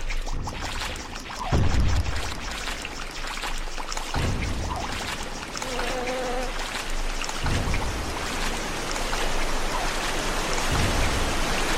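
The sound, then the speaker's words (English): Steady, fairly loud rushing and splashing of water as a character swims through deep water in a video game, a continuous hiss like pouring rain with occasional deeper low surges, and no one speaking. “I love how you can start swimming through the deep water before you land in it. Like, before it makes the actual splashing noise.”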